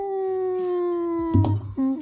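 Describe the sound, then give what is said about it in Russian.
A human voice imitates four wolves howling in fog: one long, steady, held tone, then a brief break into a shorter rising wail, fairly loud with no other talk. “Четырех волков, ну, которые волфкины, как я.”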